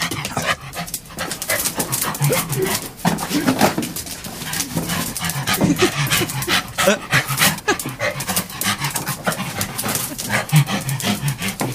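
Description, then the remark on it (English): A King Charles Spaniel pants rapidly and steadily, its quick, breathy huffs repeating in a continuous rhythm throughout with no other sounds. “That was an actual King Charles Spaniel.”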